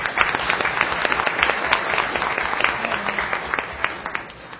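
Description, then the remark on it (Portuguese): An audience applauds a police chief (delegada) who has supported them in the city, many hands clapping steadily in a dense, crackling wash that holds at an even loudness for several seconds without voices. “Eu gostaria, gente, antes de entrar no caso, eu gostaria de uma salva de palmas para essa delegada que tem nos apoiado grandemente aqui nessa cidade, viu?”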